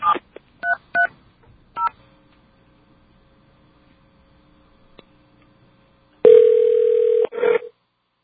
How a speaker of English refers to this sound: Okay, let's see if this works. It's an 800 number, dial tone.